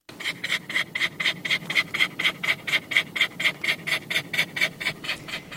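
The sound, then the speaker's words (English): A hyper, neurotic dog sitting in a parked car pants hard and fast, recorded on an iPhone: a steady, rhythmic run of quick raspy breaths, about four per second, with no talking. “She says, I'm sitting in my car with my hyper neurotic dog.”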